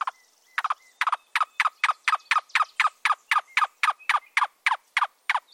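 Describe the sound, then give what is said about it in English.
A cuckoo, a slender brown and white bird with a long white-spotted tail, gives a long series of hollow, knocking notes, about three per second, steady, with no other sounds around it. “So, if you have an infestation of tent caterpillars, you might see one of these slender brown and white birds with long white-spotted tails.”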